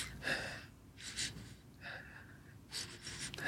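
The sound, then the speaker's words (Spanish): A person demonstrates the breathing of sadness: about four sharp, shaky inhales in an uneven rhythm, with quiet pauses between them and no talking. “Como te dije, ella descubre que, por ejemplo, la tristeza es una respiración.”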